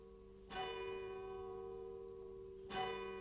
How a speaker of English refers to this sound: And from the square and sturdy tower of St. Mary's, the bell that's been sounding through the town since 1628 is ringing for the watch night service.